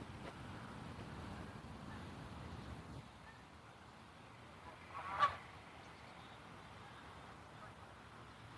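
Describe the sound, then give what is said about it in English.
A single faint goose honk rings out midway through, briefly rising above a steady outdoor rush of wind and low background noise, heard on a walk on a chilly fall morning at about 60 degrees. “Oh, geese.”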